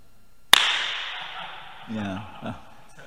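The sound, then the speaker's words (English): A single sharp hand clap, made to demonstrate a room's bad echo, rings out loudly and leaves a long, washy echo that slowly decays, followed by a brief murmur of a voice. “Yeah, it's terrible, Before they bought this thing, they should have clapped their hands one time.”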